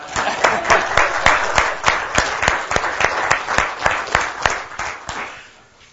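A crowd applauds steadily, with a sharp, evenly spaced clapping beat cutting through the dense wash of hands before it tapers off at the end.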